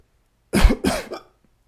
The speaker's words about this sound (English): Every time I cough, I get a hiccup, just to make the coughing more annoying. It's like cough, cough, hiccup.